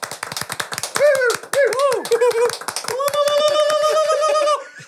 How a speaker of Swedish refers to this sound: Stor applåd